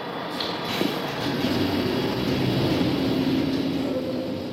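A London Underground train pulls away from a station, its steady rumble joined by a motor whine that climbs in pitch as it accelerates, loud throughout with no voices.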